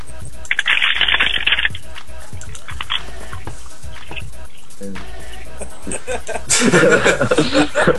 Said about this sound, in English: It just sounded like you were screwing up a piece of paper, but the piece of paper wasn't a piece of paper, it was your keyboard instead, just sort of trash compactor.